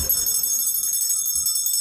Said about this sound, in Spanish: Qué de campana hoy, ¿no?